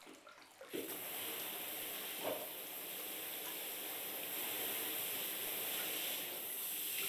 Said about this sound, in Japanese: それではお客様のお背中を流していきますね。まずは軽くシャワーを。